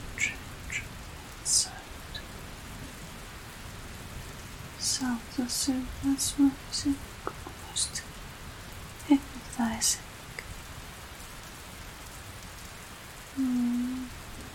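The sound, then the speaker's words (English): Steady rain falls on a hard surface, a continuous soft hiss with patter throughout, broken by a few short, louder tonal blips and a low hum near the end. “But usually, I much prefer rain. Now we have probably just this.”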